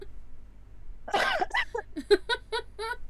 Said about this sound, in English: I did hear the cough.